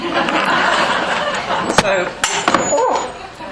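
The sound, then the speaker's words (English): A glass is accidentally broken before a lecture, giving a few sharp, bright crashes and tinkles over a steady murmur of crowd chatter and scattered laughter. “And I've just broken a glass by mistake.”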